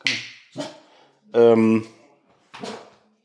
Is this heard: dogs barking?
yes